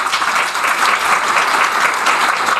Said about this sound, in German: Erstmal müssen wir herausfinden, wie klingt das, wenn alle klatschen? Sie müssen jetzt erstmal alle einmal ganz laut klatschen.